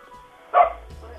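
A single sharp dog bark rings out, loud and brief, with a faint low hum and murmur in the background before and after.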